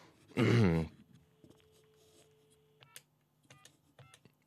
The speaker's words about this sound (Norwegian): Ja, hvem tar telefonen i dag? Det er spørsmålet. Nå skal vi prøve å plukke opp røret her.